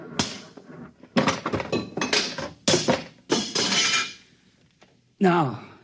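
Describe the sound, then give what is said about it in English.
A big machine that controls the buzzer is smashed with a series of loud, heavy metallic blows and clanks, irregular and crashing, ending with a short ringing clatter and a voice exclaiming. “Stand back. What are you going to do? Do? I'm going to smash it.”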